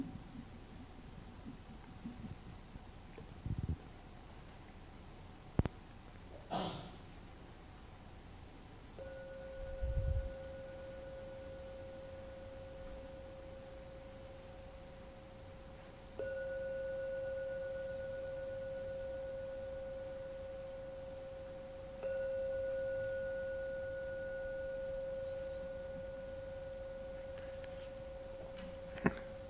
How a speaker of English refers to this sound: I will now ring the gong 3 times. Please listen to every sound of the gong. And when the last ring vanishes, time to come out from the meditation.